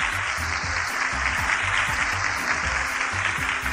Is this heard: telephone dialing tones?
no